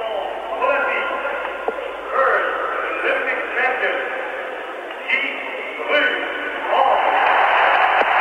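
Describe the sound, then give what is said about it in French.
A large stadium crowd roars in ovation for champion Guidru on the podium at a medal ceremony, heard through a thin, radio-like broadcast sound. The cheering is a steady wash that swells louder toward the end. “Voilà, vous entendez l'ovation, Guidru est sur le podium, il tourne sur le podium, il est en train de saluer la foule, alors que c'est M.”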